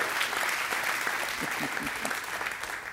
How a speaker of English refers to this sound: And can the people in the auditorium just give a hand clap to the people that are in the cafe this morning? Just so they know, you know.